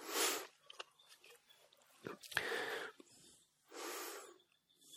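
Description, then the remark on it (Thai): Airy breaths drawn in and pushed out in a few slow, noisy waves during breathing meditation, with soft snuffling and mouth clicks between them and no talking. “ที่สำคัญต้องให้อยู่กับลมหายใจเข้าตลอดตั้งแต่เริ่มนำออกซิเจนเข้ามาในกายจนถึงจุดสุดท้าย”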